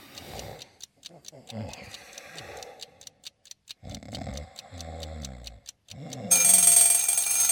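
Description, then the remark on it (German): A mechanical bell alarm clock ticks steadily in crisp, regular clicks while voices murmur underneath, then its bell bursts into a loud, continuous metallic ringing near the end, shortly before 7 in the morning. “Zur Sicherheit stelle ich noch meinen Rasselwecker. Von dem Ticken werde ich gleich ganz, ganz müde.”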